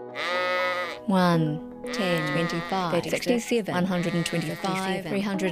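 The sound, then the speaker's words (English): Sheep bleat loudly in a shearing shed, several animals calling over one another in a steady, overlapping chorus of wavering cries with barely a pause between them. “It's a game of counting sheep.”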